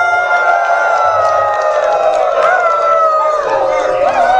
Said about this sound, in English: We're going to one more group howl for me as I exit the stage.